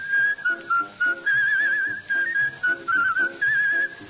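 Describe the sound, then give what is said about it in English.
A Hires bottling worker whistles a cheerful tune while working, in short, clear melodic phrases separated by brief pauses, with a faint background accompaniment underneath. “They've even been known to whistle while they work.”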